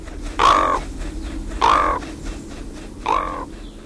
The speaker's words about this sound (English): Even today, when Raven calls in the forest, it's because he's still laughing about how clever he was.